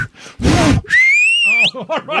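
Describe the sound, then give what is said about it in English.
A loud, piercing human whistle holds a steady high pitch for under a second, then sweeps upward at the end, with breathy noises before it and short voiced sounds right after. “And you know, when I did that whistle, it came out of my mouth.”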